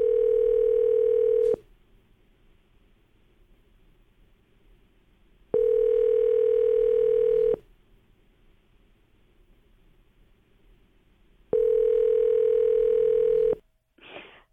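A telephone ringback tone heard through the line as K99 radio hosts call an insurance agent: three steady two-second rings separated by about four seconds of quiet hiss, then a brief click as the call is answered.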